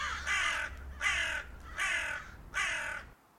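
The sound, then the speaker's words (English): Four harsh crow caws in steady succession, each loud, with brief pauses between them over a low background hum. “And do you, Shadow 2, take this crow to be your lawfully wedded husband”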